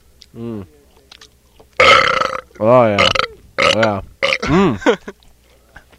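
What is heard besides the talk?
loud burping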